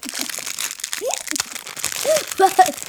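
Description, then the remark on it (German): Crackly crinkling of a thin transparent plastic fortune cookie wrapper being opened, irregular bursts of rustling over a few seconds, with people talking quietly in the background. “Sie hatte eine Tüte aufgemacht. Ist komisch, ne? Das sind so durchsichtige Tüten.”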